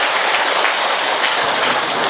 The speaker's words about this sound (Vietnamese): Một tràng pháo tay thật to nữa thưa anh chị em.